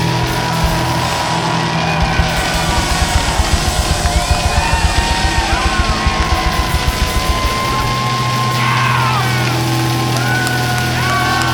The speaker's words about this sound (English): Another 10 seconds of applause.